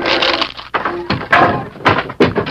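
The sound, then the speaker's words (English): A battered wooden cabin door with its hinges torn loose is wrenched open: a series of loud thunks and scraping rattles, with bursts of harsh noise as the loose door shifts and knocks. “Hold your gun ready while I open the door.”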